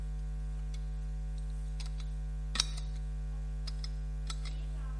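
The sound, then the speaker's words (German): Soft, sparse clinks and taps of a glass bottle, with one slightly sharper knock midway, set against a steady low electrical hum and no talking. “Da habe ich schon gehört, das ist eine Flasche, genau, sehr gut.”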